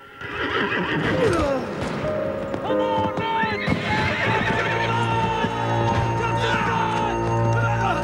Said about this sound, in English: A horse rears, throwing its rider.